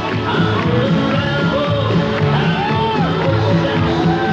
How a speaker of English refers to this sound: The crowd was drenched by thunderstorms, but demanded the show go on. It did.